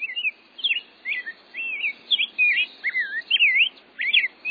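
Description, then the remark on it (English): An ultramarine grosbeak sings a bright, bubbly warbling song of quick rising and falling notes in short phrases, clear, with no voices present. “Finally, the cheerful bubbly notes of an ultramarine grosbeak are a reminder that our spring and the arrival of birds like the rose-breasted grosbeak isn't too far off.”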